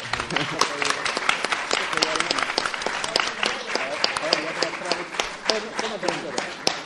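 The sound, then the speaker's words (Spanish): An audience applauds steadily for several seconds, a dense crackle of many hands clapping, with faint voices mixed into the noise. “Y un aplauso para este chico.”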